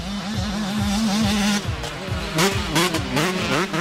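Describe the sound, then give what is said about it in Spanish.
Motocross motorcycle engines race and rev loudly at a motocross championship, their buzzing pitch repeatedly climbing and dropping as several bikes throttle up and ease off, with no talking over the roar. “Verás, y precisamente estábamos hablando de ir al campeonato de motocross.”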